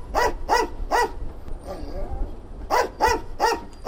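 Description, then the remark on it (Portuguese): A sniffer dog, Acha, moving over suitcases on a baggage belt at Jomo Kenyatta International Airport in Nairobi, barks in quick, evenly spaced yelps, three in a row, then a soft whimpering whine in the pause before four more sharp barks follow. “No leste de África, uma nova equipa de cães de rastreio juntou-se ao combate.”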